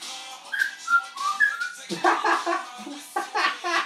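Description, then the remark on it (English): A parrot gives a few short, clear whistled notes in quick succession, followed by louder raspy, laugh-like vocal bursts. “You crazy parrot.”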